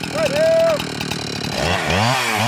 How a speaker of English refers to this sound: And as they saw through them, it's amazing because right where the chainsaw is eating through the trunk of the tree, fire is just spewing out of it.